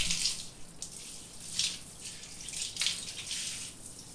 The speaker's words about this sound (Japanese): じゃあシャワーで流すね。 目つむっててね。泡が目に入ったら大変だから。 はい、じゃあ流していくよ。泡残りがないようにしっかり流すからね。